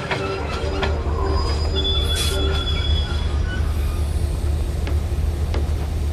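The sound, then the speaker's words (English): A train rolls slowly into a stop in pouring rain, its wheels letting out thin, drawn-out metallic squeals over a steady low rumble, with a few sharp clanks from the carriages along the way. “The guard helps passengers off the train.”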